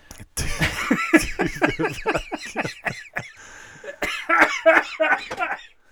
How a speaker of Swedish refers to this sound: Sluta hosta.